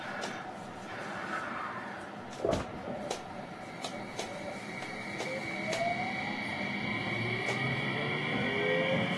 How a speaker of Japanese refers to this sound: 本日のつくばエクスプレスをご利用いただきましてありがとうございます。この電車は区間快速つくば行きです。終点つくばまで各駅に停車いたします。